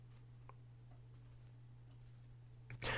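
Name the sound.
wall clock ticking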